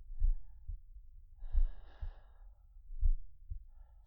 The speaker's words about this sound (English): Clear your mind. Focus only on me. The sound of my breathing.